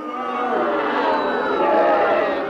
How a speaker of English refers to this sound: Cornwall blatantly blinded Gloucester in the penalty area and referee Ken Parry of Swansea waved play on, unleashing a storm of booing from the incensed Gloucester supporters, which reached a crescendo as Sir John stepped forward.